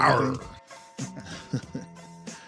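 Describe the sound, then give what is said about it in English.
A person makes a low, rough growling noise with their voice, loud, followed by a few short voiced sounds and bits of speech-like vocalizing. “Sexy growl there, buddy.”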